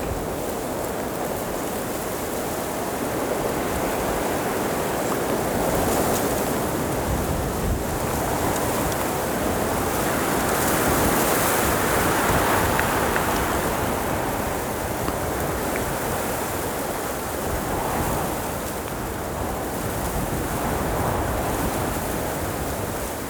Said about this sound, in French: Quelques feuilles et fougères desséchées tremblent face au vent.